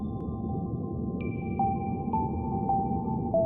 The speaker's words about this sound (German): Das, was du gerade gehört hast, heißt … und mich entspannt es sofort.